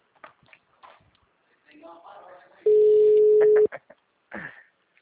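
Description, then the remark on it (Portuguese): A telephone being dialed: scattered soft clicks and handling noises, then a single loud, steady mid-pitched tone held for about a second, followed by a few more faint clicks. “Pega o telefone e começa a ligar.”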